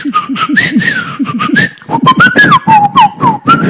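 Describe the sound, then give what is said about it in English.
A person whistles a warbling, bird-like call in imitation of bird language, meaning 'come, there's some seeds for you': a run of short chirping notes that slide up and down in pitch, steady and fairly loud, with no talking. “In bird language, that means, come, there's some seeds for you.”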